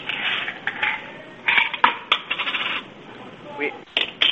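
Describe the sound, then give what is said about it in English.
Coins being handled, with a run of bright metallic clinks and jingles, some sharper clicks standing out among softer rattling, moderately loud and without any talking. “Sounds like somebody's changing coins.”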